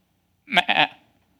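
A single wavering sheep bleat, loud, breaking briefly in the middle and trailing off after about half a second, heard alone with no talking.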